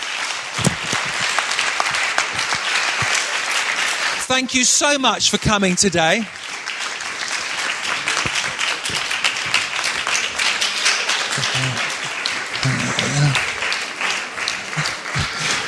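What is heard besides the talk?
audience applause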